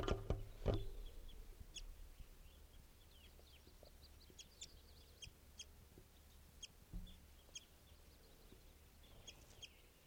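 chickens clucking

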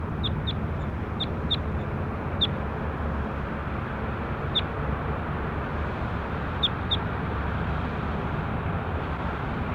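bird calls

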